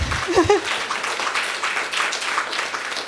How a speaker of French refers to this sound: Barbada. Barbada. Oui, applaudissons Barbada.